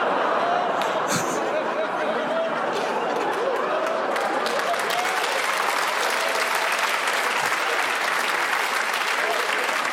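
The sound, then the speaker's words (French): A stand-up comedy audience at the Montre Comédie applauds a comedian steadily for the full stretch, a dense wash of clapping at an even loudness, with faint murmurs and a little laughter mixed underneath. “J'ai dit une dinguerie. Vous m'applaudissez.”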